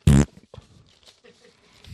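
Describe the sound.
A short, loud, buzzing fart noise blurted by a voice, like a blown raspberry, lasting a fraction of a second, followed by quiet breathy mouth sounds.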